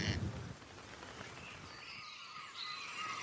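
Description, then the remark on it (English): A corncrake on the remote Mullagh Peninsula in County Mayo, northwest Ireland, gives a brief rasping call at the start, then other birds chirp faintly against a soft outdoor hiss. No one speaks. “And these are probably the westernmost corncrakes in all of the world.”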